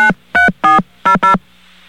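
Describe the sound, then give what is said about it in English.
Five short, loud touch-tone beeps from a phone keypad entering the full phone number of a radio station, pressed in a quick, slightly uneven rhythm with a faint line hum underneath and no talking. “Let's enter the phone number, the full phone number of this radio station.”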